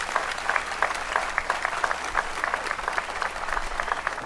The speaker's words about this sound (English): I'm sure all of y'all are very happy they're graduating because they're going to get a job, right? So big round of applause for your family, your friends, everybody who supported you.